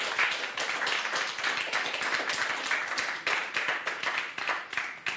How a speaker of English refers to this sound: All right, a big applause for them. Thank you.